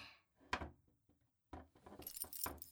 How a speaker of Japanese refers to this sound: 椅子に座らせて、後ろに回したあなたの腕を拘束している。このチェーン付きの黒いベルト。これはね、いつか主人に使おうと思って買った SM プレイ用の拘束具なの。